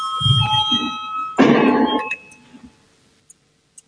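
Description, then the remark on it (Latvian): A parliamentary voting bell rings with a steady, bright electric tone for about two seconds amid some room noise, called before a vote on Justice Minister Jānis Bordāns' proposal number 10 to amendments of the Criminal Law, then cuts off, leaving a few faint clicks. “Lūdzu zvanu, balsosim par 10.”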